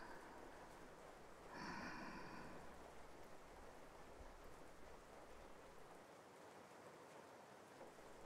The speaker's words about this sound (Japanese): 雨の音聞いていると心が落ち着きます。